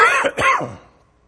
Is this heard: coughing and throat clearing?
yes